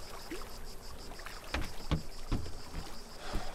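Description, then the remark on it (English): A small boat being cast off from its mooring as its ropes are untied: a few hollow wooden knocks and water sloshes, irregularly spaced, over a steady outdoor hiss, with no voices. “Cast off then, Simon. You what? The mooring. Untie the ropes.”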